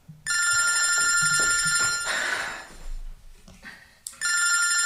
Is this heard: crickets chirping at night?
no